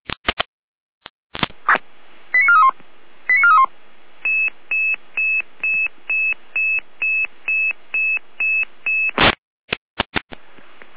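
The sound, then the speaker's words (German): Dispatch radio paging alert tones from the Saalfeld control centre, Germany, alerting a unit for a patient transfer from Blankenburg to Rudolstadt: a couple of quick stepped tone sequences, then a steady train of about a dozen identical high beeps, bracketed by sharp radio clicks and bursts of static, with no talking. “Leitstelle Saalfeld mit Alarmierung.”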